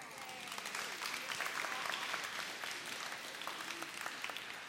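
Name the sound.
audience clapping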